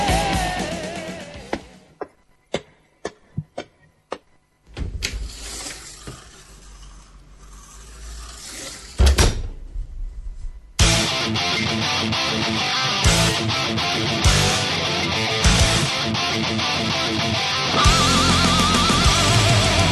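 The door of an autopsy room is opened: a few sharp, separate clicks of a latch, then a few seconds of scraping movement, before loud, dense music swells in and takes over.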